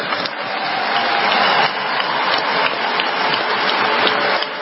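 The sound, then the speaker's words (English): A crowd applauds steadily, a dense wash of many hands clapping at once, loud and sustained throughout with no voices standing out. “White guy's not clapping.”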